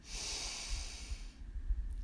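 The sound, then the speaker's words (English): A deep, breathy inhale drawn through the nose from the bottom of the belly during a meditation, fairly loud, lasting over a second before it fades into quiet, with a soft low rumble underneath. “We begin by taking 3 deep breaths from the bottom of our belly.”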